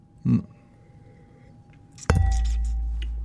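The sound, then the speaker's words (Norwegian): A wine glass knocks once against a microphone as a toast, a sharp clink with a heavy low thump that rumbles on afterward. A brief low grunt-like burst comes earlier. “Skål med mikrofonen.”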